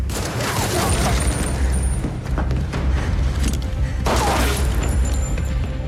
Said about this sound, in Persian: برای چی؟ برای صدای شلیک.